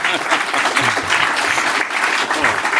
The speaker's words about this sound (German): Einen Applaus für den Red Planet, bitte.